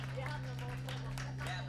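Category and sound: crowd, audience clapping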